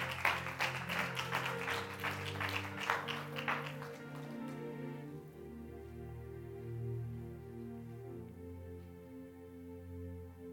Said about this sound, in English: Is that good news to somebody? If that was good news today, good teaching, clap your hands.